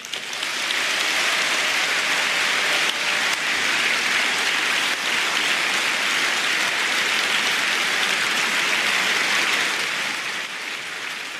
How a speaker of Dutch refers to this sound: er werd geschreeuwd. Ik hoorde volgens mij zelfs iemand roepen: pure dictatuur. Ja. Verhagen kreeg dus een boelconcert uit de zaal.